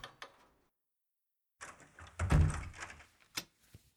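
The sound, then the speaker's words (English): A door slides and shuts with a solid thunk, preceded by a short rattle and followed by a couple of faint mechanical clicks, with no talking. “Maybe I should come on in and we'll get this door closed.”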